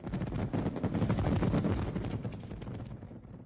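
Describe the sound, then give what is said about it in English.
A rapid, dense barrage of fireworks bursting at the end of American holiday festivities, overlapping cracks and booms rolling together loudly for a few seconds before easing slightly, with no voices. “The festivities usually end with a brilliant fireworks show.”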